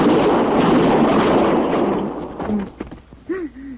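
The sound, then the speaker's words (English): A single loud revolver shot, a sound effect made for a show, bursts out and rumbles away in a long, fading roar, followed by a few short shouted voices. “So we had on a Mackenzie machine, I think the boys called it in those days, we had Matt's gun, and we always used a 45 for Matt, and for the other heavies there would be a 38 or a 32.”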